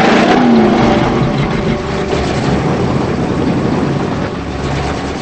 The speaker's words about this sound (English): As she struggles to sit up, the blue car backs away.